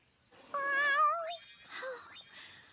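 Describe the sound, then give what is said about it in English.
A cat meows twice, a drawn-out wavering call followed by a shorter, rising one, with no voices around it. “I'm guessing you might enjoy a little milk, right, kitty?”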